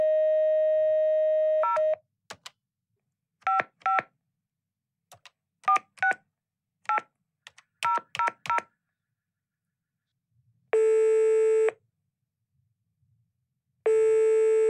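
A dial tone gives way to a quick series of touch-tone beeps as a number is keyed in, followed by two long ringing tones spaced apart. No voices are heard. The call is being placed to Santa Claus (julemanden).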